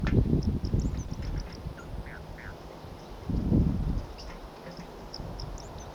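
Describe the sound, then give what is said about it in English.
A flock of wild birds call in scattered short, high chirps and squeaks over several seconds, moderately faint, with low rumbling bursts of wind or handling noise underneath. “Start recording the wild birds.”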